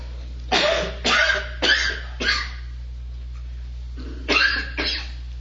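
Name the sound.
coughing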